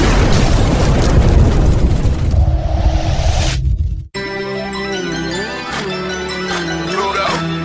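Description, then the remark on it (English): A loud rocket ignition blast, a dense rumbling roar that fills about four seconds before cutting off abruptly as music with steady tones begins. “We have ignition. Strap in.”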